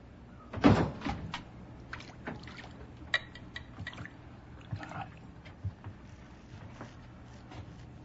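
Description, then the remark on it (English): A loud knock or bang near the start, followed by a series of smaller clunks and rattles, like a locked, broken door being handled and jostled, with a low hum underneath and no speech. “I locked that door. It's broken.”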